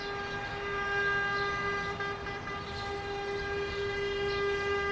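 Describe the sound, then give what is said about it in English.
A rubbish collection truck's melodic horn blares in one long, unbroken, steady tone, loud, with faint street noise underneath and no voices, as the truck does its morning rounds in Dakar and residents bring out their household trash. “Familiar with its melodic honking, residents emerge from their homes to drop off their household trash.”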